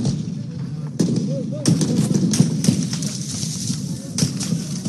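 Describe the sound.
A few sharp gunshots crack out at irregular intervals outside the Sudanese military headquarters in Khartoum, Sudan, on a Tuesday, over a steady wash of outdoor crowd noise and murmuring voices.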